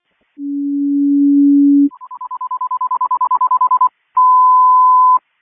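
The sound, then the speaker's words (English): Fire dispatch general alarm tones for manpower staffing at Algonquin Fire Station 1: a long low steady tone, then a rapidly pulsing higher tone that quickens, and after a short gap a final steady high tone, loud and clear with no talking. “Give me a general alarm for manpower staffing at the station 1 when you get them on, please.”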